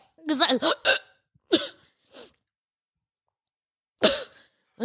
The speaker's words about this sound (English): Okay. God. Is that because you tried to fight the hiccups? Now you're trying to puke. No, I'm not.